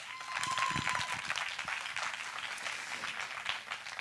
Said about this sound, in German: Ja, ich frage einfach mal so in die Runde, wer von euch ist eine Busenfreundin? Einmal klatschen.